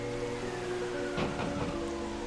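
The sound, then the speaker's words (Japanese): Steady rain and wind hiss in a continuous wash, beating against a door, with a few brief bursts like gusts or drops striking the door midway. It is moderately loud, with no voices. “戸を叩く風の音と雨の音とはいつまでも衰えませんでした。”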